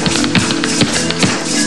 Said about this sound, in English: You want to play the outro. Play the outro, then. Go ahead.